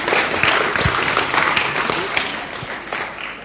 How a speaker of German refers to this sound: Ein Applaus.